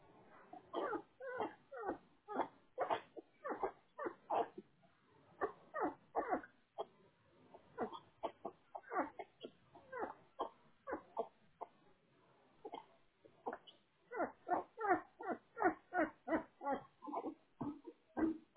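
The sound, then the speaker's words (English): Great Dane puppies just over a week old whimper and squeal in rapid, repeated bursts, fairly loud, with many short cries overlapping almost continuously and only brief pauses. “You guys got some puppies, huh? Or is that what I'm hearing? Yeah, but litter of Great Danes.”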